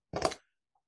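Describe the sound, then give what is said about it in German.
A single short, sharp sneeze bursts out, loud and breathy for a fraction of a second before silence returns. “Gesundheit.”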